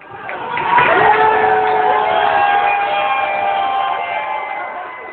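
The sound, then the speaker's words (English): A loud crowd at the Phoenix Landing Bar in Cambridge roars and cheers while watching the USA-Iran World Cup soccer match, a dense sustained wall of voices with whistle-like or horn-like tones rising through it, swelling early and holding steady. “Sound there from USA-Iran match as watched at the Phoenix Landing Bar in Cambridge.”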